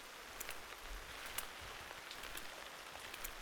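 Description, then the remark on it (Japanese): Steady rain falls on an umbrella, a dense hiss of drops with scattered sharper taps pattering on its surface. No voices, just continuous, moderately loud rainfall throughout. “それに心臓の音も雨音に混じって聞こえる”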